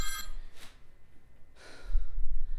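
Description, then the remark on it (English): A brief burst of bright electronic ringing from office telephones cuts off at the start, followed by a couple of breathy rushes and a low rumble of background noise; nobody speaks. “It's so loud in here. Yeah, let me turn the phones to silent.”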